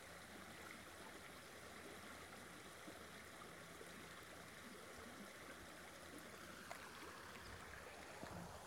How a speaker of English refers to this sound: Beautiful clear water running.